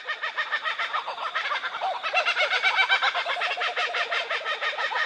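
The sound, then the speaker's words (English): A chorus of four or five kookaburras giving a territorial laughing call together, loud cackling hoots and rapid chuckles overlapping in a steady, rising rhythm that fills the whole stretch without any talking. “It's sort of letting other kookaburras in the area know that this is their territory.”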